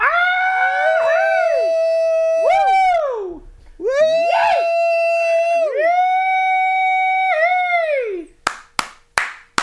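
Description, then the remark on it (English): At 8 p.m. in Southern California, people lean out of windows and whoop and howl to cheer for medical professionals, in long, wavering cries that rise and fall in pitch, overlapping for several seconds, then a few sharp hand claps ring out at the end. “That means it's time to lean out the window and cheer for all of the people who are putting their lives on the line for the health of everybody else.”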